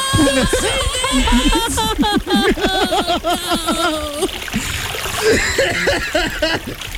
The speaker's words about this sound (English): Let me drink some cold water now!